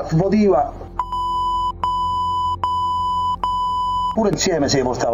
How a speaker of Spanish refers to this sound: En la reproducción, el canal 7 de la televisión italiana ha sustituido con pitidos los nombres de los cardenales implicados en presuntos delitos de abusos sexuales.